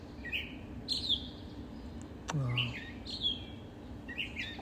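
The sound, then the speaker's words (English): A gray catbird calls outdoors in a series of short, squeaky chirping phrases, repeated every second or so, with faint low background rumble and a brief thump midway. “I was out here being like, wow, the catbirds are really catbirding, and then it flew in front of me, and I got a little video.”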